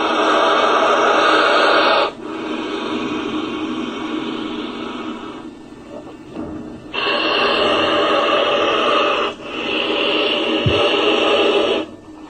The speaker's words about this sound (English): And peculiarly enough, you know, most reptiles have no vocal cords. They can only blow, and they can only hiss. The hissing of a snake, we all know. Listen to this blowing of a crocodile.